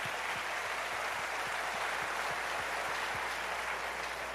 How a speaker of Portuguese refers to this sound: Dá-lhe um aplauso forte um a Jesus. Aplauso forte a Jesus.